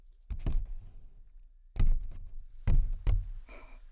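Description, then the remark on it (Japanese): Hollow, drum-like taps on a stiff paper bag, about five or six sharp thumps in loose pairs with a deep, booming low end and short crinkly decays. No talking. “太鼓っぽい。ちょっと紙袋が丈夫すぎましたかね。”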